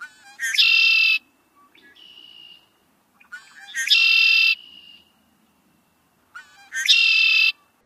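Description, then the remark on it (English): Three loud male red-winged blackbird songs, each a few introductory notes followed by a harsh, buzzy trill, repeating every few seconds with brief softer whistles between, no voices. “So that last song was the typical call of a male red-winged blackbird, that sort of characteristic conch-a-li that goes high.”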